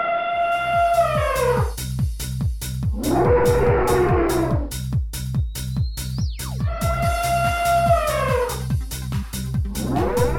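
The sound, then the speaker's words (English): Warped, distorted elephant trumpeting with long wavering calls that slide downward, layered over a steady pulsing beat. Loud and continuous throughout, with no talking. “what does an elephant on acid sound like?”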